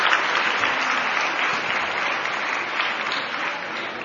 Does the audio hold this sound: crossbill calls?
no